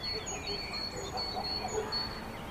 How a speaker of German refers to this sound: In der Ferne schlägt ein Hund an, in einem der verstreut liegenden Gehöfte inmitten der Weinberge. Sonst ist es völlig still auf dem Hügel von Oslavia.